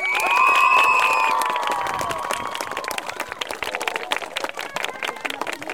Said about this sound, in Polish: Kochani, bardzo dziękujemy naszym aktorom. Uderzmy brawo. Brawo!